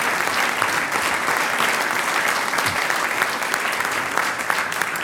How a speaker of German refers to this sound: Und da darf ich eine junge Dame zu mir auf die Bühne bitten mit einem Applaus.